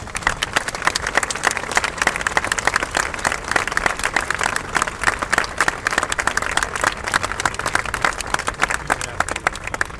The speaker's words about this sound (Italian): e l'accogliamo con un grosso applauso.